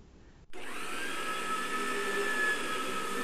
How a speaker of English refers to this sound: And then you hear it. The whoosh of a vacuum cleaner.